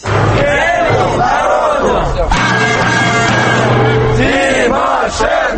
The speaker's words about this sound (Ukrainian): Це гасло звучить під будинком Кабінету міністрів що 15 хвилин.